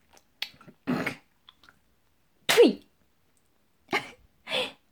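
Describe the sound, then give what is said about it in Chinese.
Several short, wet spitting bursts onto the floor, spaced irregularly with brief silences between them, one noticeably louder and harsher near the middle. “来，把主人吐在地板上的口水也都舔干净，一点儿都不许剩。”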